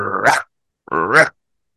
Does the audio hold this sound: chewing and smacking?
no